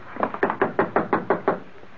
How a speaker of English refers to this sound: Then I'll do the knocking.